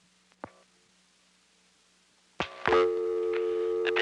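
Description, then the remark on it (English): A couple of sharp clicks, then after a pause a loud, steady telephone dial tone, left to time out, starts and holds unbroken, a continuous electronic hum with no voices. “Now I'm going to let dial tone time out.”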